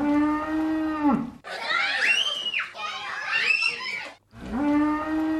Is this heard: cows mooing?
yes